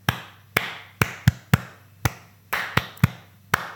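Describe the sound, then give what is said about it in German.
Hands clap a steady foxtrot dance rhythm alone, about ten crisp claps mixing longer gaps with quick pairs in a slow-slow-quick-quick pattern. “Ich sehe dich gerade nur in der Hand klatschen.”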